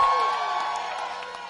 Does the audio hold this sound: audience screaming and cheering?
yes